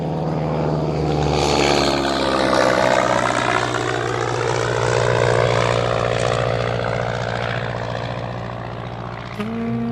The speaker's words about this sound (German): Ich sah ihn einsteigen und sah dann der Maschine nach, wie sie sich langsam in die böige Luft bohrte und im blauen Himmel verschwand.